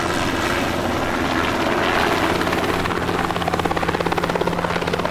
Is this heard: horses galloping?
no